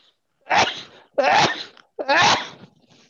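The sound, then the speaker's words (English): Three sneezes in quick succession, each a sharp, breathy burst, spaced less than a second apart with short quiet gaps between them. “And bless you.”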